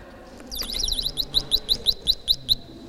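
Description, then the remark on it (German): A toy coffee cart's electronic bird chirping, played by pressing a button, sounds in a quick, regular series of bright tweets, about a dozen evenly spaced and clear over a faint low background hum. “So klingt der Kaffeewagen und das Vogelgezwitscher würde ich auch noch gern hören, zum Draufdrücken.”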